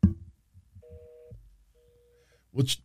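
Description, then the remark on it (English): A telephone busy tone plays two steady, evenly spaced beeps, thin and fairly quiet over a speakerphone during an attempt to call Sami Zayn, with low muffled thumps around it and a brief burst of voice at the end. “Let's see if we get him on the phone. He's probably going to be busy.”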